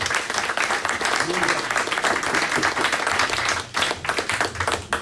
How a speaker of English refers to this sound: A huge round of applause to Matthew Raisbeck.